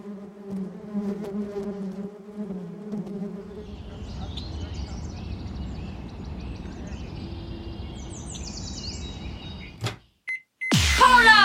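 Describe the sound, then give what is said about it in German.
A microwave runs with a low, buzzing electrical hum and steady whirring, then falls silent briefly before a loud, high-pitched beep sounds at the end. “Es war tatsächlich eine Mikrowelle.”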